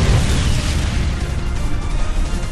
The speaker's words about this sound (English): The booming noise echoed across the valley, bouncing flatly off the dam.